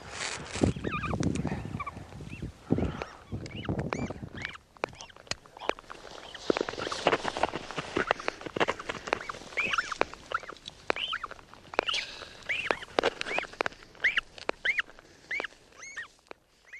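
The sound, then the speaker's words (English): High, shrill chirping cries from a tiny newly hatched chick repeat in rapid bursts over a rustling, scratchy background, with a low rumble early on and no talking. “Oh, it's alive and screaming.”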